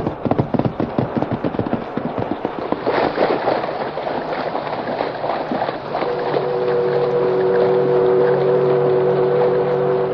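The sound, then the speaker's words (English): A riverboat churns past on a river with a fast rhythmic chugging that gives way to a steady rumble and a sustained whistle-like tone, loud, with no voices. “The masked man saw that the boat was going to pass the point on which he stood far outstream.”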